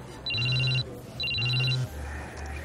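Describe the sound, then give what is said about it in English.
A phone on a table rings in two short bursts, each about half a second long with a brief pause between, bright and electronic over a low hum, with no one talking. “He looks down at his phone on the table. His face twitches into an annoyed frown and he snatches it up.”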